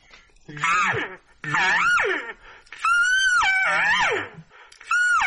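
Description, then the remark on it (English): A series of elk bugles imitated on a bugle call: about four long, whistling calls that rise to a high, sustained squeal and then slide back down, with short gaps between them and no talking. “You know, when you start to get that little S, I threw out one of my bugle calls to try to do that.”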